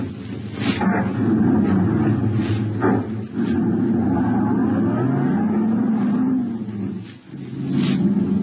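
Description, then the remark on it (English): A car engine roars in the rain and pulls away, its steady rumble climbing in pitch and briefly dipping twice as if shifting gears. No voices. “Then let's get going, will you? Just sitting here in the car in the rain. Let's get moving.”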